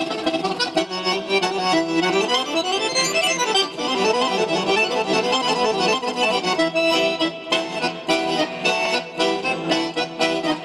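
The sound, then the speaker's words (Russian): A fast, virtuosic run of garmon (Russian accordion) playing by an ensemble member for a concert audience, dense with rippling melodic lines and chords, loud and continuous throughout with no voices. “Виртуозной игрой на гармонии порадовал зрителей участник ансамбля”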